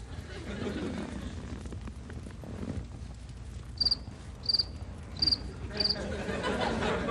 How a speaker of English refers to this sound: Just crickets, right? That's right.